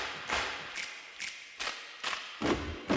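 Feet stomp on a floor as part of a children's sing-along, in a loose, uneven rhythm, about seven heavy thuds over a few seconds, with the last few landing harder and louder than the first.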